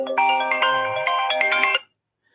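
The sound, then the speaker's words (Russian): A phone ringtone plays loudly, a bright electronic melody with sustained tonal notes lasting under two seconds before cutting off abruptly into silence. “Да, звонят мне, ну что делать.”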